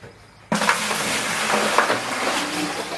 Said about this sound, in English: I have my bucket that had the dirty lid and the dirty plug in it. And I'm gonna put about a quarter cup of bleach. I'm gonna take my clean water and I'm gonna pour it in this bucket.